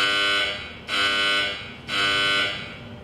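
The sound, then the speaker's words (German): A loud, harsh warning buzzer from an X-ray CT scanner sounds in three repeated pulses about a second apart before the scan begins, its raspy, harmonic-rich tone steady and unbroken by any voices. “Nach einem Warnsignal beginnt die Aufnahme.”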